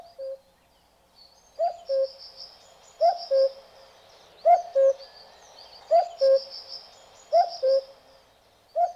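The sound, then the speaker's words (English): A European cuckoo calls its clear two-note cu-ckoo over and over at a steady pace, about six times, while fainter high-pitched birdsong chatters in the background. “The European cuckoo inspired the cuckoo clock.”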